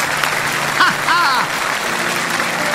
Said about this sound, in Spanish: Agradezcan, lo han hecho bien. Ese aplauso tiene que ser más grande.